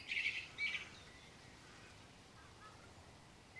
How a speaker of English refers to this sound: Wonderful. 3:45 in the morning. And a blackbird.